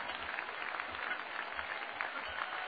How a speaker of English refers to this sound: And I think everybody in the house ought to just go ahead and honor the Lord here tonight. And while you're clapping your hands, I just want you to hear in the background the chains of sin snapping in the lives of the people around you.